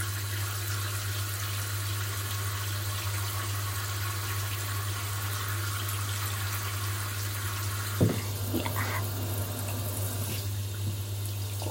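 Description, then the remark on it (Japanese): Hot shower water runs in a steady hiss throughout, with a low constant hum underneath and a single brief knock partway through. No one speaks. “あ、にしたってこのシャワーが熱いな。”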